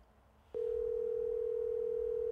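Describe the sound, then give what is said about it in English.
After a brief quiet moment, a steady electronic phone tone starts and holds unbroken, like a call ringing out over a speakerphone. It is clear and fairly loud, with no talking. “No, nobody picks up the phone when you're calling.”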